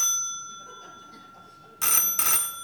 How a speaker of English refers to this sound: That is my telephone ringing, isn't it? Yes, of course. Aren't you going to answer it? I'm almost afraid to.